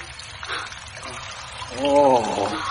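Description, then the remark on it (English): Steady rain patters and trickles as a soft, continuous wash of water, with a voice briefly rising over it near the end. “Listen. Oh. It's rain.”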